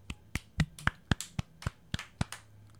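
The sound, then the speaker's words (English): Two people clap their hands together in a quick, steady rhythm, about ten crisp, sharp claps over a few seconds, with no voices. “Sound of four hands clapping.”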